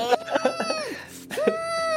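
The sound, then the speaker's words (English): A voice imitates a muffled, closed-lips scream: a run of short, strained, pitched bursts, then a long sustained high hum held to the end, fairly loud and unbroken by words. “just like closed lips screaming.”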